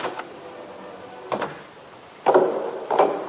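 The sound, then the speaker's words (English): A front door is answered and opened: a few faint knocks or clicks, then a louder scrape and thud as it swings, with soft rattling movement and no voices. “I'll just go and answer the door.”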